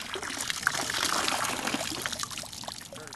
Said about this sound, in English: Tom dips the net into the water and skims along the bottom of the stream.